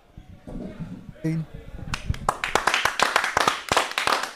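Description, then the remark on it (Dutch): A voice talks briefly, then loud applause breaks out as a head coach takes a seat at the table: a few people clapping in a quick, steady stream of sharp claps that carries on to the end. “Ja, en onder luid applaus is aangeschoven hier aan de podcasttafel hoofdtrainer”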